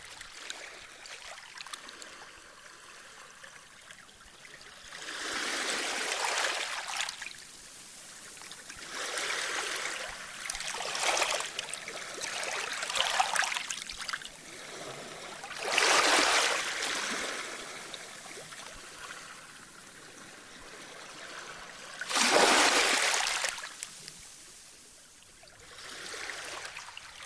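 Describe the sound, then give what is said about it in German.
Pacific Ocean water off Vancouver, Canada, recorded in 1973, washes in and recedes in a series of broad, hissing surges every few seconds, moderately loud, with a low watery murmur between them and no voices. “Der Pazifische Ozean vor der kanadischen Stadt Vancouver auf einer LP aus dem Jahre 1973.”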